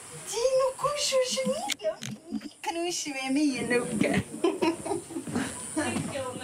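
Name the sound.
children playing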